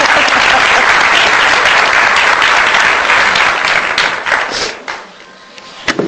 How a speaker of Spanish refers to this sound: Muy bien, voy a pasarle la palabra al señor alcalde. Un aplauso, por favor.